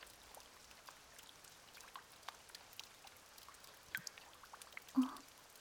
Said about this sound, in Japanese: 一面の水が大きな雨粒一つ一つをアルバムのように大事に包み込んでくれてる。